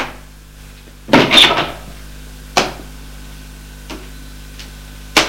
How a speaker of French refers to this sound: Il ouvre la porte de la chambre, éclaire et le fait entrer.